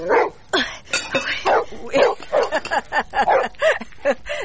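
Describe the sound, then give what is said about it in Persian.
A dog beside a tent at the foot of a mountain barks repeatedly, a rapid run of sharp yips and barks with brief whimpering notes, loud and continuous over several seconds. “این سگ پالوی خیمه ما چرا غوغو میکنه؟”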